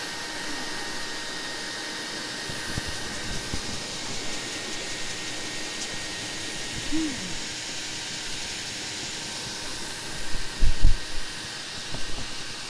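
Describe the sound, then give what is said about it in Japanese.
A hair dryer blows steadily for the whole stretch while drying a person's hair, a constant breathy whoosh with a faint hum, broken by a few soft low bumps and handling knocks near the end. “ドライヤーの温度大丈夫？”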